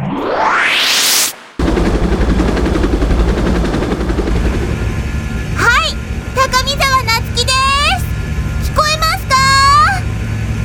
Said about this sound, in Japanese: すごい音だけれど、どこにいるの？ 私は今、三鶴ヶ崎上空を飛ぶヘリコプターの中にいます。